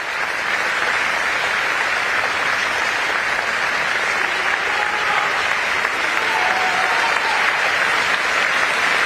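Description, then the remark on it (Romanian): Sustained applause from a sizable group of journalists welcoming the new pope, the first American pope, a dense, steady clatter of clapping hands that stays loud and even throughout, with no voices standing out. “Jurnaliștii nu s-au lăsat mai prejos și l-au întâmpinat pe noul papă cu aplauze.”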